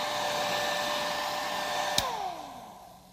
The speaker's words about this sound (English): Now I'm going to use a dryer. This is a blow dryer.